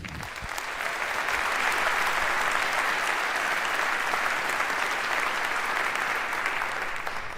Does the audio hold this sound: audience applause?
yes